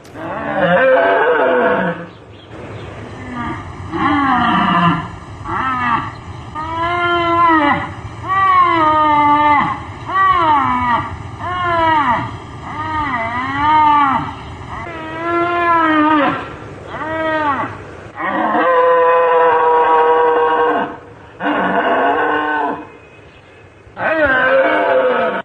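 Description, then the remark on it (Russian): Siberian musk deer, a small herbivorous deer of the Altai Krai fauna, calling: a long series of loud, harsh, wailing cries, each with rich harmonics and a rising-falling pitch, some short and some drawn out, coming in irregular bursts with no talking. “Сегодня программу открывает кабарга.”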